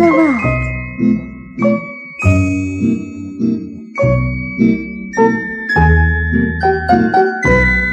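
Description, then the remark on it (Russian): Bright, thin tinkling tones of small golden bells on bracelets worn on a dancing girl's arms ring out in a steady, rhythmic melody over fuller lower notes, each strike bold and clear and fading briefly before the next, with no voices. “И было слышно, как тонко звенят золотые колокольчики на девочкиных длинных руках.”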